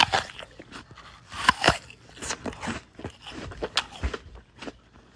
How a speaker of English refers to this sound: for diagnosing a long unrecognized medical condition, misophonia, the distress at hearing other people make chewing sounds.